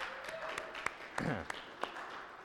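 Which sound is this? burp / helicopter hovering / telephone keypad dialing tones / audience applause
audience applause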